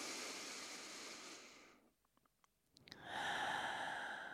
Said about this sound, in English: So I'll do that and then take a really deep breath, sort of how we start these podcasts.